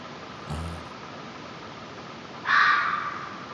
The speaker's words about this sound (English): There's a lot of animals that sound like crying children and women in the woods. Take a listen, kids. This is a fox. Let's see how it sounds.